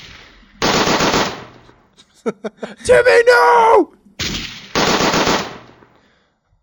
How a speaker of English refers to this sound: Oh, wait, I have a gun sound, don't I?